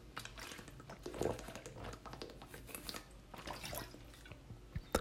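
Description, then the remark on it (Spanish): A person sips and swallows a little water to soothe a very dry throat, with small wet mouth clicks, gulps and light clattering handling noises spread through quiet surroundings, no talking. “Bueno, tengo la garganta sequísima, así que voy a beber un piquito de agua.”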